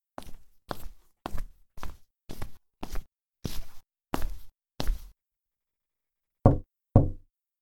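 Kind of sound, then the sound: household object, knocking on a door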